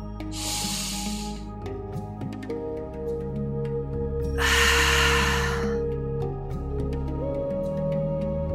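Two long, airy breaths, a deep inhale followed a few seconds later by a fuller exhale through the mouth, drifting over a soft, steady music bed. Clearly audible, with no talking.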